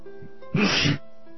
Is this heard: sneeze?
yes